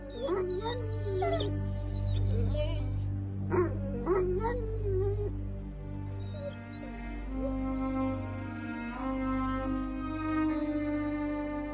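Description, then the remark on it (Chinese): Five puppies howl and whimper together at their dead mother's grave in the morning, wavering high-pitched cries rising and falling over one another above a steady low rumble, continuing throughout with no one speaking. “五条乳犬从此每天早上都一同前去母犬的墓旁哀嚎，很多年都没有间断。”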